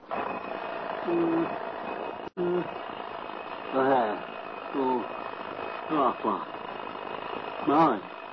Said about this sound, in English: Let's listen as the alarm clock starts their day.